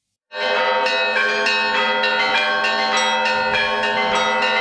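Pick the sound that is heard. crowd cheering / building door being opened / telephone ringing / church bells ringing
church bells ringing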